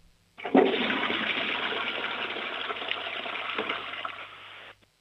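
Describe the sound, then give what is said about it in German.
A home toilet in Lower Austria flushes with a sudden loud rush of water that roars steadily for about four seconds, then cuts off abruptly. Clear, with no voices. “Dann lauf gleich mal los und zeig uns deine Klospülung.”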